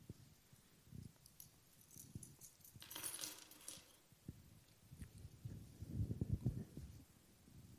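Fabric rustling and handling noises, with a short bright jingle of keys in the middle as they're pulled out of a trouser pocket. Nobody speaks.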